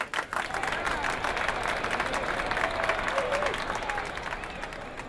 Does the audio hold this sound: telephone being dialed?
no